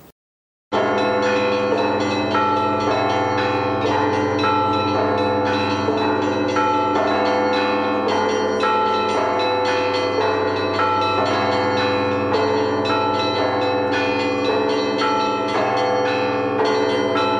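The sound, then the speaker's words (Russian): A full peal of church bells at the ancient Tikhvin Monastery in Russia rings in the morning, loud and continuous, many bells overlapping in a dense, rhythmic clangor with rich ringing overtones and no voices, announcing the consecration of the altar of the monastery's main church, the renovated Dormition Cathedral. “Древний Тихвинский монастырь наполнил колокольный звон.”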